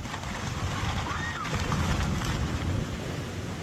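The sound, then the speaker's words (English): Storm waves and gusting wind roar steadily against houses built on sand, multi-million dollar houses collapsing and being destroyed, in a dense, unbroken rush of noise, with a low rumbling churn underneath and no clear pauses. “And so what I want to do is just give you an illustration of what happens to a house that's built on the sand and the storms come.”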